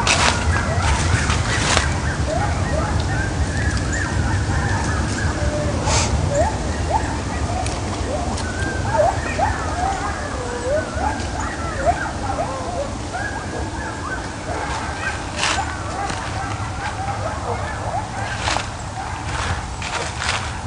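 A pack of coyotes, set off by a passing siren, howls and yips together in a wavering, high-pitched chorus that rises and falls for about twenty seconds over a steady low rumble, with occasional sharp clicks.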